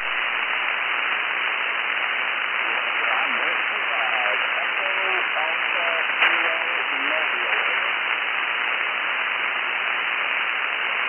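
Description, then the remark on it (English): Steady hiss of radio static fills the whole stretch, with a weak, garbled voice from a mobile radio station fading in and out beneath it, too faint to follow, like a shortwave signal. “Yeah, Whiskey 5 Echo, and I didn't get the last, he faded out on me, but Whiskey 5 question mark.”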